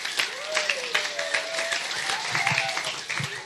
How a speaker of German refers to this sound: So, wir wollen jetzt noch ein bisschen weiter reingucken. Und zwar, alle, die es feiern, einmal Applaus für Matthäus 19, 3-6.